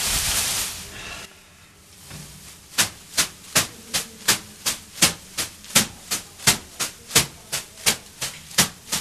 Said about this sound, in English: Lovely to get the aroma smacking me gently with leaves. This is to help with lymphatic drainage. Lymphatic drainage, exfoliation, just gentle massage as well, muscle ache, muscle pain, muscle recovery.